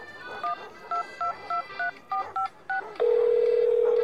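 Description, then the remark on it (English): The phone number 1555 is dialed as a quick run of about eight short, evenly spaced touch-tone beeps, followed by a steady, continuous electronic tone. “I guess I could try to call.”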